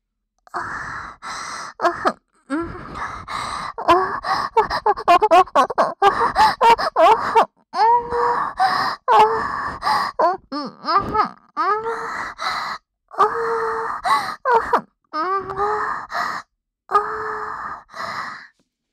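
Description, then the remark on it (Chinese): Loud sexual moaning from a couple inside a room, a long run of breathy, voiced cries and gasps rising and falling in pitch with brief pauses between bursts, with no other talking. “里面这对狗男女当叫的声音也太大了吧？”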